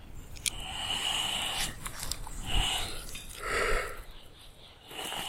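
A giant tortoise breathes heavily, with harsh, breathy exhalations and snorting puffs at irregular intervals, close by, over faint rustling and background hiss. No one speaks.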